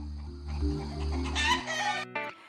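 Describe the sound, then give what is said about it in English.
Chickens cluck in a busy, overlapping stream of short squawky calls, fairly loud, over a steady low humming tone, with no one speaking. “It's my new thing with chickens.”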